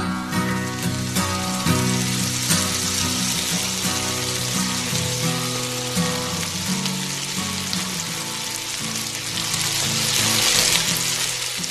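Food sizzles steadily in a frying pan, a loud continuous crackle and hiss that swells near the end, with music playing underneath throughout.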